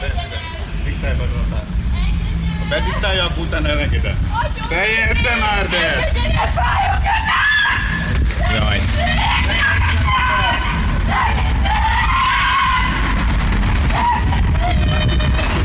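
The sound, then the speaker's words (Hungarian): A woman screams and shouts in loud, strained bursts, crying to be let go and that her hand hurts, as two police officers press her onto a car hood during an arrest. Steady street traffic noise and other voices are mixed in. The distress continues for the whole stretch, intense. “Egészen durva a videó, ketten visszanyomják ugye a motorháztetőre a két rendőr, a nő meg kiabál, hogy engedjen el, fáj a kezem”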